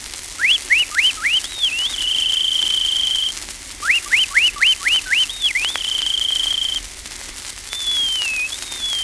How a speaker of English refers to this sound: The master voice of the field is the meadowlark.